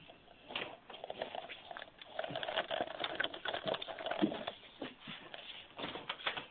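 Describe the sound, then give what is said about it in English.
A cell phone on a call is dragged across a surface toward the speakers' voices, a continuous rough rustling with irregular louder bursts over several seconds, no voices. “We're going to drag the phone closer to our voices.”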